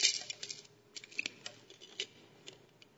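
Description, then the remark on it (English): Coins drop and scatter on a hard floor: a quick run of bright, metallic clinks and taps, irregular and fairly quiet, with one ringing ping partway through and no voices. “the money just starts falling out.”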